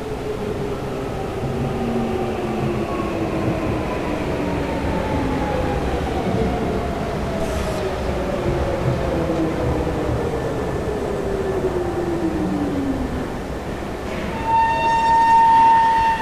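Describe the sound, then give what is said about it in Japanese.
An electric train pulls into platform 1 of a station, its motor whine sliding steadily lower in pitch as it slows over a constant rumble, ending with a sharp, high brake squeal as it stops. “まもなく1番線に電車が参ります。危険ですから白線の内側までお下がりください。”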